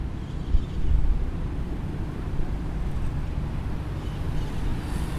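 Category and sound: vehicle, city street traffic noise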